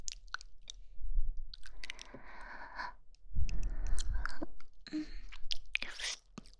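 crunching ice cubes

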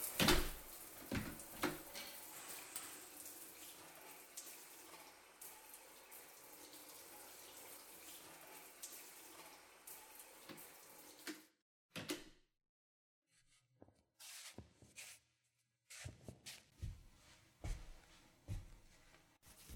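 door closing

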